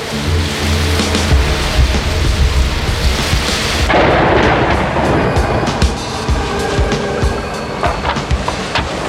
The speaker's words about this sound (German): Das Unwetter wurde im Laufe des Tages immer schlimmer. Am Abend drehte sich der Windmesser auf der Spitze der Brücke rasend schnell und das Schiff stieß seinen Bug mit aller Kraft in die Wellen, um danach wieder nach oben gedrückt zu werden.